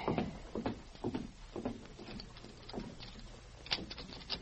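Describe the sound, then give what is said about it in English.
A back door rattles and clunks open as a gang arrives, with a series of uneven knocks and scrapes over a low steady hum. No one speaks. “They're at the back door.”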